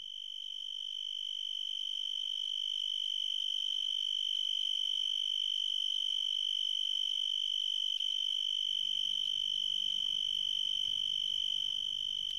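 A broad-winged tree cricket, the largest tree cricket, calls in one steady, unbroken high-pitched trill, loud throughout, with a faint low rumble creeping in during the final few seconds; recorded in West Virginia.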